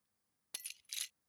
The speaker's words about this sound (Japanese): 何？鍵を落としちゃったの？もう何してるのよ。ほら貸して、時間ないんだから。